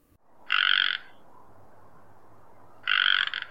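A male frog gives two short, buzzy non-breeding croaks about two seconds apart, each a loud rasping burst lasting half a second, over a soft background hum with no talking.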